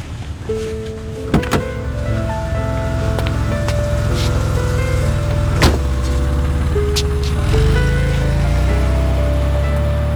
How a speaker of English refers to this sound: I stood there as that vast car swept away